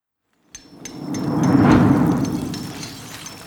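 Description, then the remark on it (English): Steady rain hisses in after a short silence, swelling under a deep rolling rumble and then easing off slightly, with scattered sharp taps and clicks over it. No one speaks. “Castle Brecon's muddy courtyard was writhing with activity, even in the rain.”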